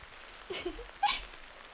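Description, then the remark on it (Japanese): Soft, steady rain patters across a surface, with a couple of brief, strong, gusty bursts of wind rising and falling over the quiet, continuous downpour. “強い風、びっくりしましたね。雨の時の風ってなんだかひんやりとしていて、私にそっくり。”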